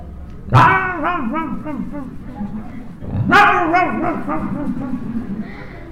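A dog gives two sharp yelps about three seconds apart, each trailing into a drawn-out, wavering whimper. The dog sounds moderately loud, with no other sound in the background.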